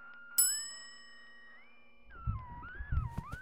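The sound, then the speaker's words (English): A single bright ding from a desk service bell rings out clearly and fades over a steady electronic hum, then low rumbling thuds and warbling tones take over toward the end. “It looks like there's a bell on the desk.”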